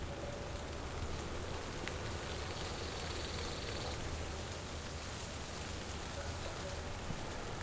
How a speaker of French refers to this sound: Pluie fine, chlorophylle, la montagne est là, à vos oreilles.